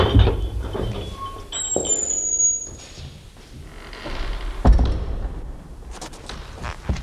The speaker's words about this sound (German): Doch zu ihrem Erstaunen ließ sich die Tür mit einem leisen Quietschen öffnen.